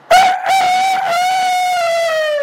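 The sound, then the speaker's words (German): A person imitates a rooster crowing: one loud, drawn-out cock-a-doodle-doo call held for about two seconds, its pitch sliding slightly downward at the end. “Kikeriki, da steht ein Hahn auf dem Mist.”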